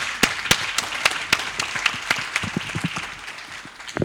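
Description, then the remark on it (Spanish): An audience applauds consul Antonio Pena to open the DICOEX participatory dialogues, with sharp individual claps standing out over a dense wash of clapping that stays fairly steady and then thins slightly toward the end. “Yo quiero dejar con usted entonces a nuestro cónsul Antonio Pena y le damos un fuerte aplauso, ¿cierto?, para iniciar estos diálogos participativos de DICOEX.”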